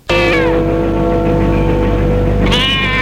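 A cat, Cri-cri, at the bottom of a staircase lets out a long, drawn-out meow that bends downward in pitch, then starts a second rising meow near the end. Loud, with no talking.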